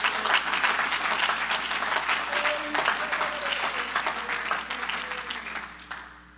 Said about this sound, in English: You ought to clap your hands and say, thank you, Jesus.